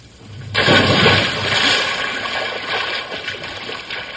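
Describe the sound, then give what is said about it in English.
A single loud splash of someone plunging into the water of an old swimming hole, followed by a few seconds of churning, sloshing water settling down. No one speaks. “when we get to the water, all we have to do is just jump in and cool off”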